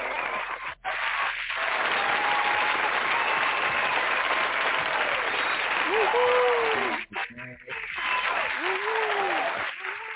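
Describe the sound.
An audience claps and cheers steadily for about ten seconds for a man's birthday, a dense wash of applause with brief dips, while voices call out and whoop over the top.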